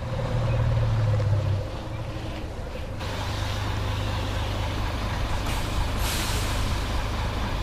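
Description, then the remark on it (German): A Swiss postal bus (Postauto) arrives at 6 pm in the mountain village of Juf, Graubünden, over 2,000 metres above sea level, rumbling in with a low, steady engine drone, followed by bursts of hissing air brakes as it comes to a stop; no one speaks. “Punkt 6 am Abend kommt das Postauto an und bringt die Jugend zurück ins Dorf.”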